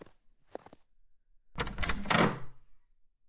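The door of a hunter's guild in a small town opens: a couple of quiet clicks from the latch, then a longer scraping, rattling swing of about a second that fades out. No voices.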